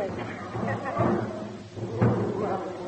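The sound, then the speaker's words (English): A drum is banged by a military man walking up the line, with dull, heavy thumps, two stronger beats about a second apart, mixed with muffled voices and a busy background. “Look, it's a military gentleman walking up the line. And he's banging a drum.”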